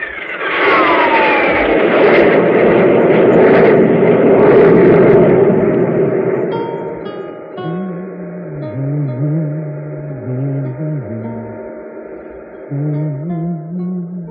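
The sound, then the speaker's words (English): A loud, broad roar of spaceship jet drive engines, increased on all jets, fills the first half, then eases into a steady droning hum with a low, wavering electronic tone pulsing underneath. “Increase the jet drive on all jets.”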